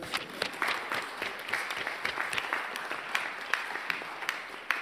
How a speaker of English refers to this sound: And a very special announcement today that I'd like to make on behalf of the Welcome Project. Our family arrived on Thursday. They are in Oxford. So we need to give ourselves a big clap.